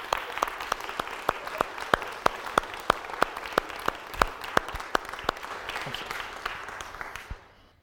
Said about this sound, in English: So can we give these people a massive round of applause and a huge thank you for all they've done, because without them, I wouldn't be able to do the job I have done. So thank you.